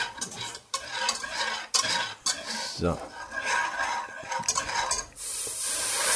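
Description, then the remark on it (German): Brisk, continuous stirring in a pot of chicken soup poured over mushrooms and asparagus, stirred smooth so the flour dissolves without lumps, with repeated scraping and swishing strokes and a light sizzle beneath; a voice speaks a single short word briefly. “Da rein und dann direkt glatt rühren. Rühren, was das Zeug hält.”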